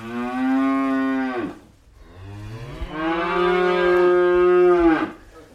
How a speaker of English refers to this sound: We've just spayed the Highland calves, that's why they're making a bit of noise, so we just brought them down yesterday and split them off, and the cows are back out the hill again, so we'll go and see them in a wee bit.